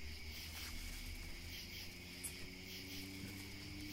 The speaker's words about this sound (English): It's a cricket. It's a different one this time. Doesn't have the thing on the bottom.